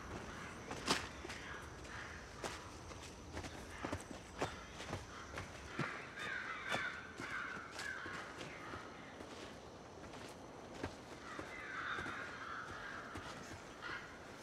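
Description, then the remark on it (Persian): Crows, scavenger birds, caw in a couple of bursts over steady footsteps crunching along at a walking pace. No one speaks. “لاش خورا”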